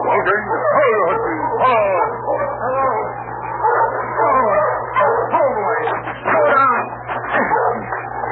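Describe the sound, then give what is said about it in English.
A dog working in harness barks a warning to its master, barking and yipping over and over, fairly loud, in a busy, almost continuous run of excited calls with a steady low hum underneath. “He barked a warning to his master when he saw the team heading toward the boat.”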